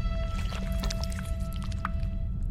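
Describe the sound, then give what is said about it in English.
Green poison drips from the mouth of a huge snake with a triangular head, hanging in a dark cavern: wet, sticky dripping and squelching, with a scattering of small liquid drops falling irregularly over a steady low rumble and a faint hum. No one speaks. “Green poison drips from its mouth.”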